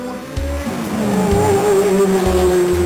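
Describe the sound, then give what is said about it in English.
A racing car engine roars loud for a few seconds, its pitch climbing steadily as it accelerates, with a rhythmic low rumble underneath and no voices. “Here is a racing car, see me go.”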